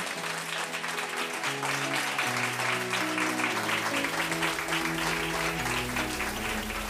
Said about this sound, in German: Vielen herzlichen Dank. Noch einen tosenden Applaus